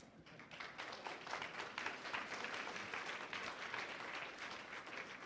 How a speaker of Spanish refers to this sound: Si es cierto, puede aplaudir, si no, quédese con las ganas.